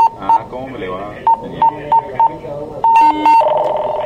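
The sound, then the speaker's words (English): An oil and gas pipeline control room alarm, signalling a detected sudden drop in oil pressure, beeps in short, uneven bursts, then sounds longer sustained tones, loud over a layer of murmuring voices in the background. “An alarm here means the system has detected a sudden drop in oil pressure.”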